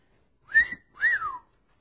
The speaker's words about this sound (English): And she observed how beautiful women every day would pass by her. And she noticed that these men were all whistling and admiring these beautiful women.